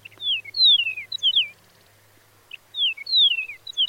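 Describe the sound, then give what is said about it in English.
Two clear phrases of bright, whistled Chihuahuan meadowlark song with slurred descending notes, separated by a short pause, sung loud over a faint low hum. “The research suggested that song differences could help prevent Chihuahuan meadowlarks from breeding with other species, and that eastern and western meadowlarks are more closely related to each other than they are to the Chihuahuan birds.”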